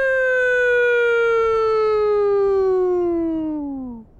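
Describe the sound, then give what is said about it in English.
A single long old-style police siren wail, loud and steady, holding a high pitch before sliding down and trailing off at the end, with no voices present. “They had that nice, soothing, relaxing siren.”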